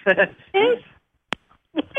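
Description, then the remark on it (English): A cat meows a few times over a telephone line, the short, tinny cries thin and band-limited, with a sharp click in a quiet gap before more meowing. “I heard your cat chime in with hello first.”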